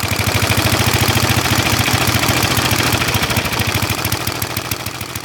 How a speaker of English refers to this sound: Engines have a cadence, and a single, having only one cylinder, is kind of a steady beat.